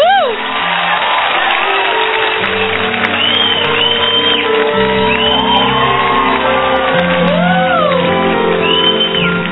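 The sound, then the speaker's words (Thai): A loud, continuous crowd cheers and claps to welcome a female guest, with high whoops and shouts rising and falling over a steady, sustained low droning tone for the whole stretch. “เราปรบมือต้อนรับเธอเลยค่ะ”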